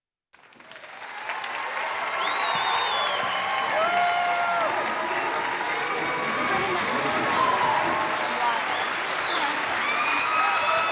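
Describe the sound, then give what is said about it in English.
Sustained applause from a large audience, a dense continuous clatter of clapping that swells in within the first second and holds steady, with scattered voices and faint cheers mixed in. “That applause is not for me, by the way.”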